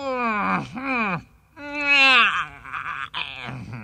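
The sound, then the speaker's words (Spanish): A person voices the yawn of a cat covering its mouth with its paw, drawn-out moaning tones that slide up and down in three stretched bursts, fairly loud, with no words. “Bostezó el Michi tapándose la boca con la patita.”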